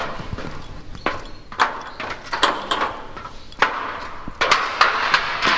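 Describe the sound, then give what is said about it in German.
Footsteps cross a scaffolding walkway leading from a park over to a civil protection facility, each step landing as a sharp, hollow knock at a steady walking pace, fairly loud, with no voices. “Ein paar wenige Schritte nur und alles sieht komplett anders aus.”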